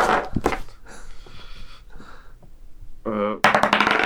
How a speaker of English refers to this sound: So now I have in my hand a D20, 20-sided dice. Mm-hmm. So you're going to roll on how well you performed.